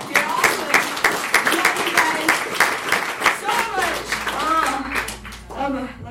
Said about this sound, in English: And now you're all a part of that, so give yourselves a round of applause for being here.